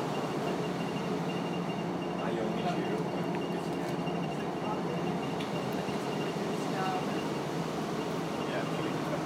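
Steady, continuous rumble and rattle inside a moving train carriage, a dense low drone with faint clicks and squeaks over it, holding at an even loudness throughout, on a train that left London in the evening.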